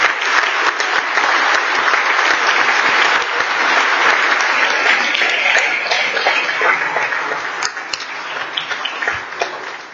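An audience in the House of Representatives breaks into a sustained birthday round of applause, dense overlapping clapping that stays loud and steady for the full ten seconds before easing slightly at the end.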